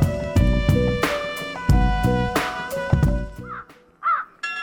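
A short burst of rhythmic music cuts off, then a raven caws about three times, harsh and throaty, with short gaps between the calls.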